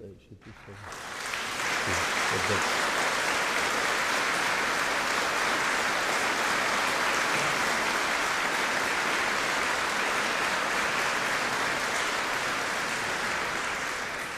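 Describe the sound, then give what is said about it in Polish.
Parishioners in a church break into steady, sustained applause after a brief quiet moment, the dense clapping holding at an even loudness to the end without letting up. “No i oczywiście tym wszystkim, którzy teraz klaszczą, czyli parafianom.”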